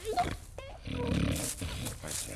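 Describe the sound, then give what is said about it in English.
A voice imitates the Gruffalo snoring as he sleeps on a snowy night: a couple of short snorting grunts, then a long, rough, rumbling inhale lasting about a second, followed by a softer wheezy breath out. “One snowy night, when the Gruffalo snored,”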